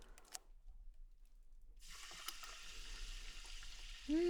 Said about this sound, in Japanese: あ、わかった？ 炭酸。